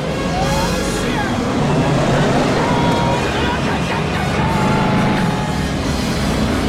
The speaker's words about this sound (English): Fletcher opens the throttle to its maximum and ducks under the wing of the plane, just missing the heat of the engine exhaust